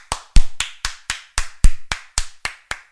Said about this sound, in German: Applaus!